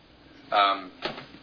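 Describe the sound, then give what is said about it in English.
A door creaks briefly with a squeaky hinge, followed a moment later by a softer click or bump as it settles shut. “Sorry. Door was...”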